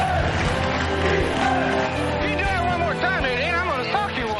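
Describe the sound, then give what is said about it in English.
A large, jam-packed football crowd at the Polo Grounds in New York, on a frozen, snowy field, roars in a steady, dense wash of cheering and shouting, with individual voices rising above the din throughout. “On a frozen, snowy field, jam-packed crowd of the Polo Grounds in New York, Connolly drives an inspired team.”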